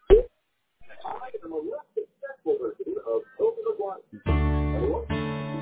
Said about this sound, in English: Bear with me. It's ringing right now. I will introduce you with the gentleman.